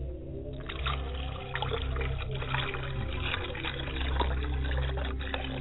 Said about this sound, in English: As I wash my face with the water, making sure that my face is not stale, washing my hands, getting ready for the libation, I pour libations to the east, and I say Ashe. I pour libations to the west, and I say Ashe.